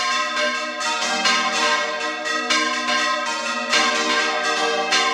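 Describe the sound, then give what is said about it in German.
Church bells of various sizes, some over a metre in diameter, are rung by hand by about half a dozen men and women in the bell tower, pealing loudly, overlapping strikes following one another in a quick, steady sequence and ringing on continuously with rich, sustained tones, with no voices. “Ein gutes halbes Dutzend Männer und Frauen stehen hier oben, läuten die Glocken.”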